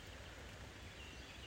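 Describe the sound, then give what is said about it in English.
Light rain falls in a steady, soft hiss with no pauses, a faint even wash of patter and no voices. “It's raining, nice and lightly.”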